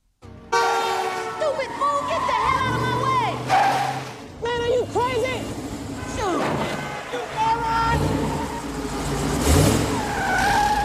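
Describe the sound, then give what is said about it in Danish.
A Corvette Stingray sports car engine revs as it drives through busy traffic with horns blaring around it, while a man curses and talks loudly over the noise the whole time. “så klipper vi over til Chris Tucker, der kører og banner og svogler i trafikken”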